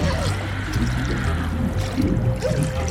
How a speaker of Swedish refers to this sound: Det spränger i lungorna. Trycket kommer inifrån. Jag låter några bubblor sippra ut.